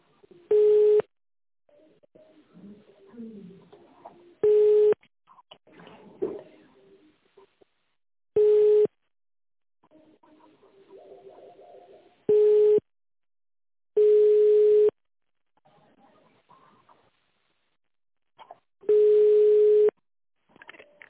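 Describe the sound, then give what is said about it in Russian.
A telephone ringback tone, heard while waiting for an answer after an office's automated line asks the caller to dial an extension, repeats about six times, each roughly one-second steady mid-pitched beep separated by a few seconds of quieter line noise and faint murmuring. “Подождите ответа абонента.”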